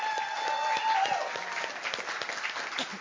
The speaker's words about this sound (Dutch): Nou, nog een extra bemoedigend applaus voor ze allemaal. Goed gedaan, hè, of niet?